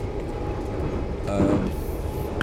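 A steady low rumble fills the inside of a moving, rather squashed train carriage, with rattling and a brief swell of mechanical whine midway, continuous throughout.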